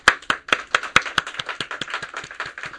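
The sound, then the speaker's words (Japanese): A church audience applauds to welcome a visiting couple during a service, with sharp claps repeating in a quick, uneven rhythm that gradually softens toward the end. There is no talking. “歓迎の拍手をしたいと思います。”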